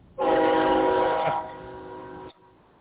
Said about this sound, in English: You hear the choo-choo train? I do hear the choo-choo. We're going to Clovis, New Mexico, and there's a choo-choo train right next to us.